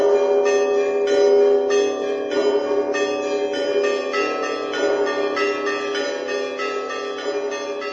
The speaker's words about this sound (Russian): Встречали крестоходцев торжественным звоном колоколов.